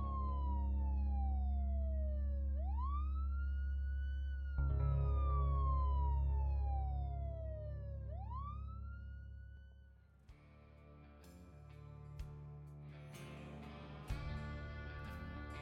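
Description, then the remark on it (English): A siren wails in the distance in repeated rising and falling sweeps over a low engine rumble, then fades away after about ten seconds, leaving a softer, steady background. “He just smiled tiredly and patted the dog's head as he heard sirens in the distance.”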